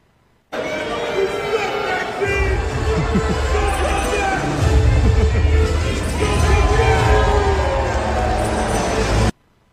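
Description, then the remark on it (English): A large crowd at a WWE live event boos Maxine Dupri with sustained, low, droning boos, a dense rumble of voices that swells louder midway and holds steady until it cuts off. “All right, guys, Rhea Ripley and Zelina Vega respond to viral video of Maxine Dupri getting booed at a WWE live event.”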